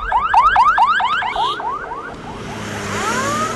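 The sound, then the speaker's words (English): An ambulance siren yelps in rapid, repeated rising sweeps, then trails off into fainter, slower wails over a steady rush of road noise, as several ambulances carrying wounded fighters speed down the road toward a roadside clinic. “Soon, several ambulances with wounded fighters tear down the road toward a nearby roadside clinic.”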